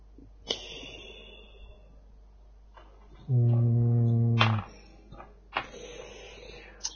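A man lets out a long, drawn-out voiced yawn, loud, lasting over a second, with quieter breathy sniffs and rustles before and after.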